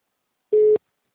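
A single short telephone tone, a steady mid-pitched beep lasting about a quarter second, sounds clearly in silence, like the ringback heard while an outgoing call connects.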